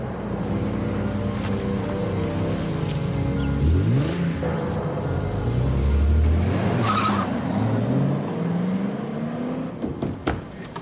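car driving off

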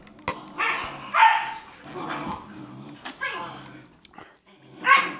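puppies barking

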